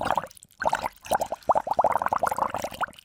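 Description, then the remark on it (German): A voice imitates a whale fart with a rapid, gurgling bubbling sound: a quick run of wet pops in a mid-pitched burble, with short pauses between bursts. “Dieses Blubbern, das denken wir ja schon, oder? Ja, wenn da Gas rauskommt, dann muss es doch blubbern, also, denke ich.”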